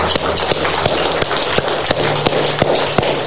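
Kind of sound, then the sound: crowd, audience clapping hands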